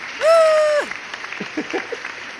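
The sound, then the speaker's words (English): A canned applause sound effect, cued up by a show host to thank a guest as the show wraps up: a steady wash of clapping noise, opened by a loud, sustained whistle-like tone that swoops up and falls away, with brief murmuring voices underneath toward the end. “Let me see if I can cue this clap up again, maybe, right?”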